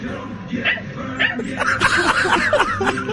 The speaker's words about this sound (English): Get Daryl Moose Johnston on the phone and there's just a little dog yipping over there.